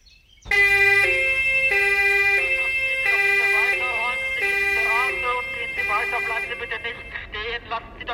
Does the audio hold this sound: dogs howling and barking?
no